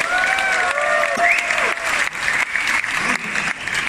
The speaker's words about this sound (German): Wer ist der Meinung, dass die beiden das besser gemacht haben? Der klatscht bitte jetzt!